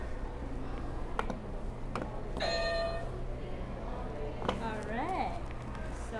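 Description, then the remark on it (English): A buzzer sounds once, a steady, harsh electronic tone lasting about half a second, after a couple of sharp clicks. A low background murmur runs throughout, and a voice rises briefly afterward. “You can hit the buzzer if you want.”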